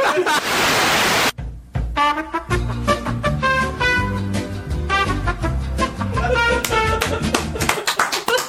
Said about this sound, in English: Thank you. That's the first clap in OSW history.